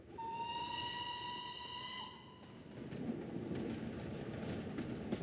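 A steam locomotive's whistle blows a long, steady, slightly wavering chord for about two seconds, then the whistle cuts off and the loud chugging, hissing rumble of the passing train carries on.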